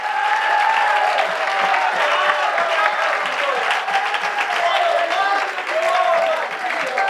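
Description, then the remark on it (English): A crowd claps steadily and loudly for several seconds as praise to God, dense overlapping hand claps with voices calling out and murmuring underneath. “Somebody clap your hands for just a moment and give God that faith.”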